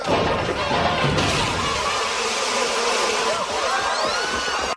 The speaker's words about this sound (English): And then they dump over a truck and a box of killer bees. That's what the box is labeled. Come swarming at the people trying to find a cure for the virus that's going through Springfield.